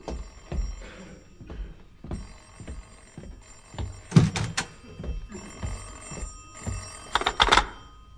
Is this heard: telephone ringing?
yes